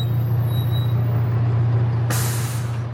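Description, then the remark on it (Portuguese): A steady low engine rumble of a bus idling at a bus stop, then a sudden loud hiss of air brakes releasing near the end, with no one speaking. “Enquanto isso, no ponto de ônibus em frente ao EPG, duas amigas se encontram.”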